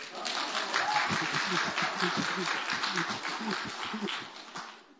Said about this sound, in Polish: Tak się zdarzyło, że byłem przy porodach całej czwórki moich dzieci. Już za to należą mi się brawa.